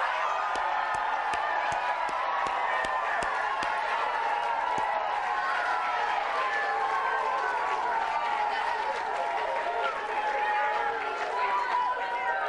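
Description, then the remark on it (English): A lively youth football group from Seymour cheers and shouts together in a sustained burst of many overlapping voices, with scattered claps punctuating the first few seconds before the clapping fades and the cheering continues. “Say hello to Seymour Youth Football.”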